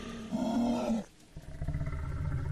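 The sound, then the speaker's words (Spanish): A loud, deep guttural roar swells for about a second, breaks off briefly, then gives way to a steady, low rumbling growl that continues to the end, with no voices. These are strange guttural sounds and growls heard during a storm. “Cuando de repente comenzaron a escuchar sonidos guturales y extraños gruñidos.”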